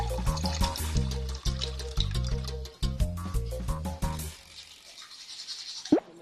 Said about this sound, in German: Einfachstes Beispiel, beim Zähneputzen nicht den Hahn laufen lassen, sondern das bisschen Wasser, das wir wirklich brauchen, in einen Becher abfüllen.